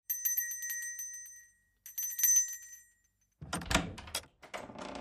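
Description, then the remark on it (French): The doorbell at the small door of a boarding school rings twice on a dark, cold evening, each bright, high metallic ring lingering for about a second, followed by a burst of clattering and rattling like a door being worked open. “Je sonne à la petite porte du pensionnat avec calme.”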